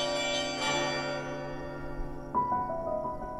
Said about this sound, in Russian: Расскажу еще о колоколах наших, андреевских. Хороши они? Ну что поделать? Хороши, поют.